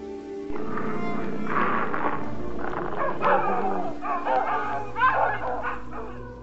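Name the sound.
dogs barking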